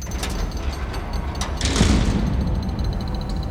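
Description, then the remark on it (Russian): A man tries for the hundredth time to open the locked door of a cramped cabin, rattling the handle and latch mechanism in several short metallic jolts, with a heavier push near the middle, with no voices. “Он в сотый раз пробует открыть дверь. Бесполезно.”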